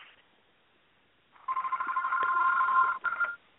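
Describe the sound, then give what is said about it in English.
A telephone rings with a steady electronic trill, one long burst of about a second and a half followed by a shorter burst after a brief gap. No one speaks. “Oh, there's a phone call.”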